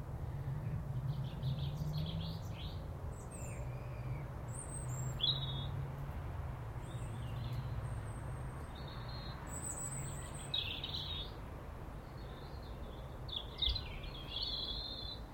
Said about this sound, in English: A high on the tree sings a lonely song thrush. Only it stopped singing.